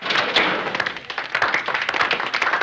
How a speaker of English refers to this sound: There's sort of like a, as I say, grudging applause, which is sort of like slow hand clap.